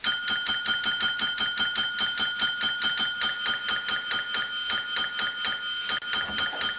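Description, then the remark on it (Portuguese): A small hand bell rung by the character Tio Salamanca is rung rapidly and insistently, its bright, high metallic tone repeating in a fast, steady jangle for several seconds with no voices. “E ele passa uma agonia, cara, a hora que ele começa a tocar aquele sino ali.”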